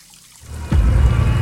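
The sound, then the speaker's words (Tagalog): A tap is turned on and water gushes out in a steady, full hiss after a brief moment of quiet, running on without a break, as someone washes their face at night in a bedroom in front of a medicine cabinet. No voices are heard. “Naghihilamos siya.”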